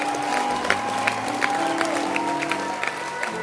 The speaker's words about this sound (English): Clap your hands